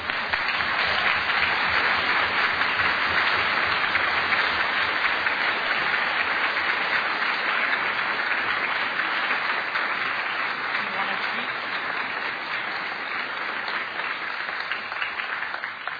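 Steady audience applause fills the whole stretch, a dense crackle of many hands clapping at an even, sustained loudness with no voices breaking through.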